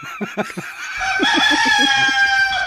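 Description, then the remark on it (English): A rooster crows loudly, a long sustained cock-a-doodle-doo with bright harmonic tones, preceded by a few short clucking notes. The rooster wears a small harness and was brought by a passenger trying to board a domestic flight as an emotional support rooster. “Officials confirmed the bird was wearing a small harness and appeared calm, though vocal about the situation.”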